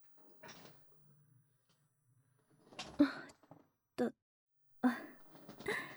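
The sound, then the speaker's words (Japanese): A quiet mechanical hum as a hair salon shampoo chair moves, followed by a few sharp clunks and creaks as the seat shifts and the backrest reclines, moderately loud. “椅子の方動きますね。背もたれも倒れますよ。”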